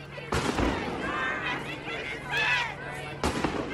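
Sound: flashbang grenades exploding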